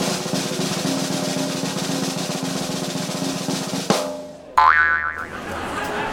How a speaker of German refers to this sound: Ich nehme Pfeil und Bogen, spanne ihn, ziel auf die Landkarte und feuer. Du legst also den Pfeil in den Bogen, visierst die Landkarte an. Ja. Und schießt.